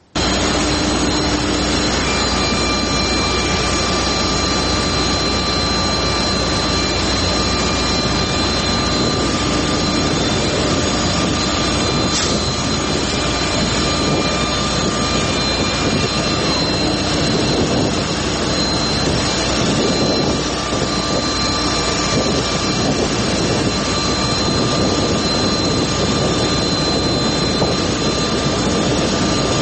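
jet airliner engine roar

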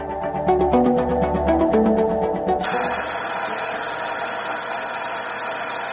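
school bell ringing

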